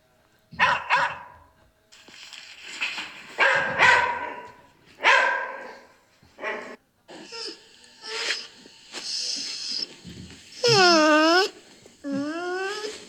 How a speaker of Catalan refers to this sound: Fixeu-vos que els gossos s'expressen de moltes maneres diferents, eh?